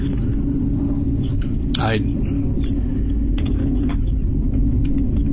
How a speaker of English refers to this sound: boy, do you hear that? I'm getting buzzed here by the F-35s.